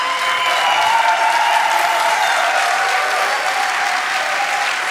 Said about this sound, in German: Ja, gib einen dicken Applaus bitte, auch für beide.